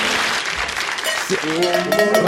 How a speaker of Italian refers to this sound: E questa è la campana del musichiere, del 1959, quando Gino Bartali e Fausto Coppi sono ospiti proprio del musichiere, che è la trasmissione che tiene incollate milioni di italiani al televisore